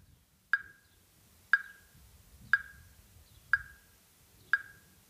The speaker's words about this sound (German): Und stell den Metronom mal so leise wie möglich.